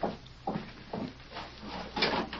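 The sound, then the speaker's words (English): A door is pulled open with a series of wooden scrapes and creaks, several rough bursts about half a second apart, with no voices. “There's only someone at the door.”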